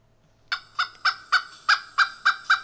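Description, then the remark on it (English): A pileated woodpecker's loud, ringing call: a rapid series of about eight harsh, nasal notes in quick succession, clear with no other sounds around it. “Yeah, let's listen to a pileated calling.”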